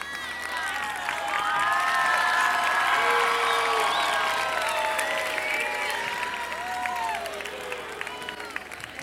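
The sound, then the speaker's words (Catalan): A crowd in Sitges claps and cheers steadily for several seconds after being asked to applaud, a dense wash of applause with shrill whoops and voices rising above it, loud throughout and tapering slightly near the end. “Aplaudiu.”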